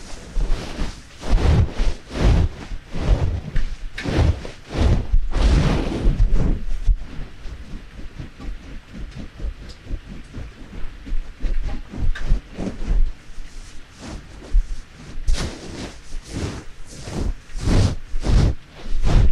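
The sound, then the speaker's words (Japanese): Heavy rain pours down steadily while gusts of wind surge and whoosh, loud throughout, with no voices, just an unbroken roar of weather. “雨が止むまでここにいな。”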